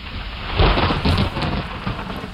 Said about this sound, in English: Man, check out that storm. We came in just in time.